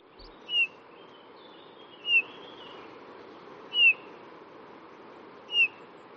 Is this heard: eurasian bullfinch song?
yes